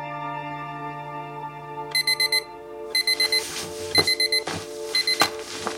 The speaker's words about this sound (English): Snowden turns over in bed as Mills bats at the clock without opening her eyes, managing to turn it off.